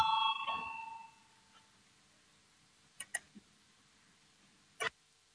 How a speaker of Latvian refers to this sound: Lūdzu, zvanu, balsosim par 132. deputāta Valājņa priekšlikumu.